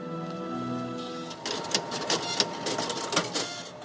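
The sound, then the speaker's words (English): A fax machine prints: a steady humming motor tone gives way to a busy run of rapid mechanical clicks and rattling bursts, fairly loud, with no voices. “And yet, the fax is not dead. It is super alive. It is sending billions of faxes.”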